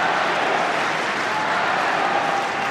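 A large tennis crowd cheers and applauds in a steady, dense roar that stays loud and unbroken throughout, with no single voice standing out, after a point in a match between Jannik Sinner and Carlos Alcaraz, at break back point for Sinner, the cheer favouring Sinner more than Alcaraz.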